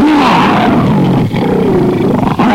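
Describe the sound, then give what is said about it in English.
A man's voice imitates an attack dog's snarl, a loud, sustained, throaty growl with rising and falling pitch, rasping without pause for a couple of seconds. “Oh, here's me and snarling.”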